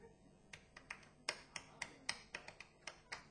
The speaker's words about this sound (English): This one has involved some clapping, and we had a discussion about it because it's a 6/8 clap.